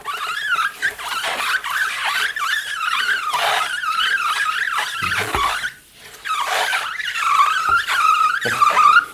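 A loud, high, wavering squeal imitating skidding tires, made by rubbing across a rubber mat wetted with a little water. It runs almost continuously, with one brief break midway before the shrill screeching resumes. No one speaks.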